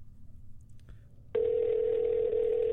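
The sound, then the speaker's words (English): A phone call rings out over a speakerphone: after a moment of quiet room noise and a faint tap, a loud, steady ringback tone starts and holds without a break. “Put it on speaker. It'll go. Not on speaker? There we go. We'll see if it works.”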